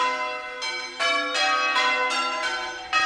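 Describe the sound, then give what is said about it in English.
Church bells pealing in change ringing, each bell ringing once on every line in a sequence that changes each line and never repeats, a steady succession of overlapping bright, resonant strikes whose tones ring on and blend into one another, with no voices present. “In change ringing, every bell rings on every line once and only once, and each line is slightly different than the line before it, and no line ever repeats.”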